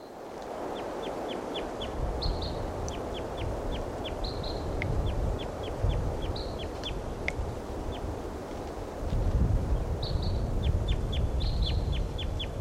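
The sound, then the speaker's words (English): Flight calls of a crossbill in a dead tree at a camp: sharp, high-pitched 'kip' notes repeated in quick bursts of several, mixed with a few brief buzzier notes, over a steady low rumbling background noise. “We've got a crossbill here in the camp, in the dead tree, giving robust song. And that's flight call right now.”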